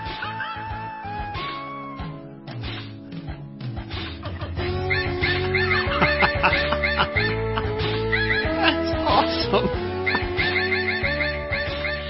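A full-sounding song whose melody and backing are built from pitched dog barks, yips and yelps in steady rhythm, layered densely and played loud and continuous with no singing.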